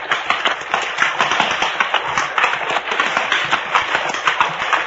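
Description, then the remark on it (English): Horse hooves clatter and splash as a rider crosses a creek with a rocky bottom on horseback, a dense run of irregular knocks over steady rushing water, fairly loud throughout with no voices. “The creek bed has a rocky bottom and your horse is liable to stumble unless you keep his head up.”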